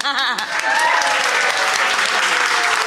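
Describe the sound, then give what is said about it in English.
A brief voice gives way to a loud, dense round of applause, many hands clapping steadily and continuously with a few faint shouts mixed in until the end. “Round of applause.”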